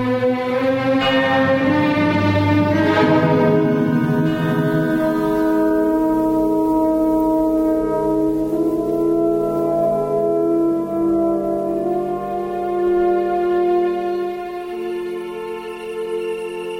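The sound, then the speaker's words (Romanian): A deep bell tolls, its low resonant hum swelling and lingering steadily for the whole stretch, loud with no voices over it. “Mă duc și gata. Clopotul mă cheamă.”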